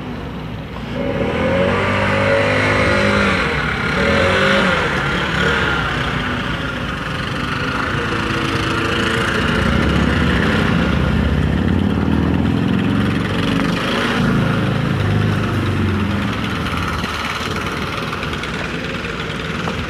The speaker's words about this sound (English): I got a couple of cowboys with back-mounted leaf blowers here.